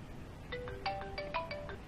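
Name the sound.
phone ringtone ringing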